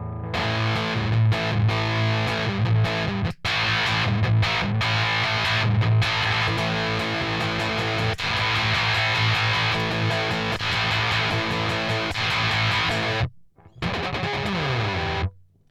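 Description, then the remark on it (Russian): An electric guitar plays through an octave pedal, thick and distorted, in sustained chords and riffs for about fifteen seconds, with two brief dropouts and a short closing phrase. “Не сильно, но, возможно, тон придется подкрутить вам, если вы почувствуете, что со включенной октавой звук стал более ярким.”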